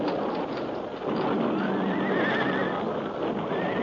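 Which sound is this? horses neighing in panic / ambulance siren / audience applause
horses neighing in panic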